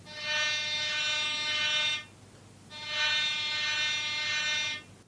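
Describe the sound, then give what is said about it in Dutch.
The lifeguards' small red rescue boat at sea by a pier toots its horn twice, each a loud, steady, brassy blast of about two seconds, separated by a short pause. No one speaks. “Ze was in de zee aan het zwemmen toen ze de reddingsbrigade in het rode bootje hard hoorde toeteren.”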